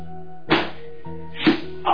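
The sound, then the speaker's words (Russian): Three heavy thwacking blows land about a second apart as an unarmed person is beaten, over a steady low droning background, with no voices. “Стой! Перестань бить безоружного.”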